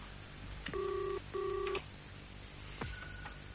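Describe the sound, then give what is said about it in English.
A telephone call rings on the line at about 8:10 in the morning: two short back-to-back ringback tones, thin and steady, heard through a handset, then a click and a faint tone as the call seems to connect. “It's ringing.”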